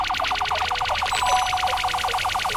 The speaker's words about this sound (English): No, I don't care how many alarms you sound.